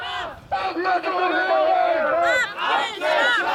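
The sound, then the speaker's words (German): A crowd of animal rights protesters in Tübingen, demonstrating in September 2014 against experiments on monkeys at the Max Planck Institute for Cybernetics, chants together in loud, raised voices, the massed shouting rising and falling in steady phrases with brief dips between them. “In Tübingen demonstrieren Tierschützer gegen Experimente mit Affen im Max-Planck-Institut für Kybernetik.”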